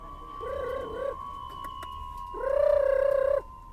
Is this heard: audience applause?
no